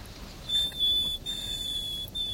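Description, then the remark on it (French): A nightingale gives its clear, high whistled position call, with which it always begins its song: three sustained pure notes separated by brief pauses, with no voices. “Alors il commence toujours son chant par son cri de position, et après il décline son identité.”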